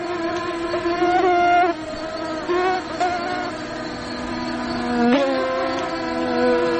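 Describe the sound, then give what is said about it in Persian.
A mosquito buzzes in a continuous, droning whine that wavers slightly in pitch as it hovers, with a brief swell near the end and no voices. “پشه ها از موذی ترین انواع حشراتی هستند که بشر به درازای هزارها کوشیده از شر نیششان رها شود.”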